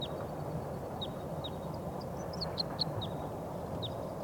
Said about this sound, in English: They're getting excited. I think there's some wild birds coming in. I hear a song of a wild bird.